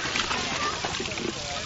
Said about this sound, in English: I'm filling up a bucket and I'm going to pour it on my head.